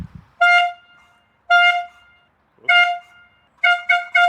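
A toy horn (Tröte) blares loudly as the start signal for a course of 18 stations: three sustained honks, then a burst of quick stuttering toots, with short pauses between blasts and no talking.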